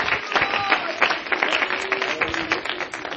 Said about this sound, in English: Aren't you glad for the church today? Somebody clap your hands in honor to the Church of Jesus Christ.